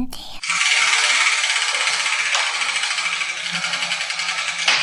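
A letter wheel spins with a loud, steady rattling clatter that holds for about four seconds, fine rapid ticking running through it, and ends with a small knock as a ball drops out.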